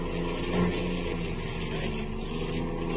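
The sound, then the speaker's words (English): A getaway car's engine runs steadily throughout, a continuous, fairly loud rumbling hum with a faint tonal drone and no change in pitch or any voices. “Okay, Mike, head for the state line.”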